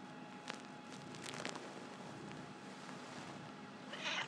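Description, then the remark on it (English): A male cat purring while standing on top of a printer indoors, a steady low rumble that runs throughout with a few soft rustling bumps from handling. No one speaks. “He's now standing on the top of our printer, purring his head off.”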